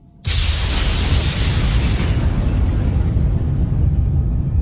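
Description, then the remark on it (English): A lightning strike hits with a sudden sharp crack at the start, then rolls into a loud, sustained thunderous rumble heavy in the low end that holds steady for several seconds without fading. “Lightning sliced through the air, splitting into two distinct paths, hitting its targets simultaneously.”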